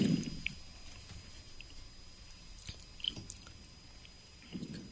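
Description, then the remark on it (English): Quiet mouth sounds of someone tasting an oyster and sipping wine, with soft wet smacks and small clicks, a low murmur at the start and end, and no talking. “Now do I take a sip of the wine? Yeah, let's have a little wine.”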